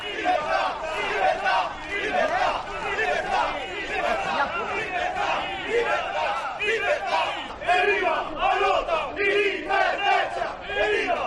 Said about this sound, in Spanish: en medio del jolgorio de todos estos tíos.